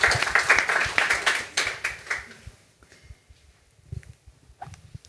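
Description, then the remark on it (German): Audience applause: a burst of many hands clapping, loud at first, then fading over a couple of seconds to a few scattered claps and faint shuffling. “Ah, jetzt gibt es Applaus.”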